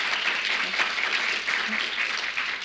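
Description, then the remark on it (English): An audience claps steadily after a poem is read, a dense, even patter of many hands, holding at a constant level for a few seconds with no voices over it. “Please don't applaud, because, you know, if you applaud one more than others, then I think that one you don't like, you know, and we get very upset about things like that, right?”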